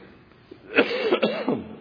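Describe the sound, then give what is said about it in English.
A speaker coughs a few raspy times in quick succession in the morning, each a short harsh burst with a rough voiced tail, heard alone at moderate loudness. “As you can tell, a bit of a struggle this morning. So bear with me. I'll just keep coughing.”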